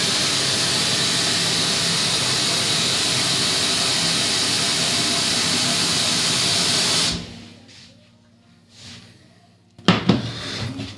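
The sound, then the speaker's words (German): A loud, steady hiss from a pot of water on the stove runs for about seven seconds, then cuts off abruptly, leaving faint clinks and a short clattering burst near the end. “So, als erstes Wasser aufsetzen.”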